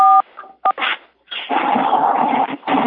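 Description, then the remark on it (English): A couple of short electronic dialing beeps with steady stacked tones, followed by a dog's whimpering yips and then a dense stretch of noisy background sound with no talking. “Somebody's dialing in.”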